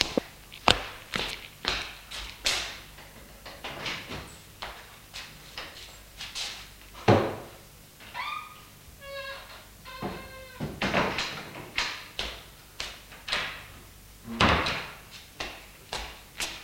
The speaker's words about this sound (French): On sonne à la porte d'entrée. Pas de réponse, la personne entre, la porte est ouverte.